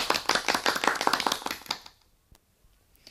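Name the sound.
short round of applause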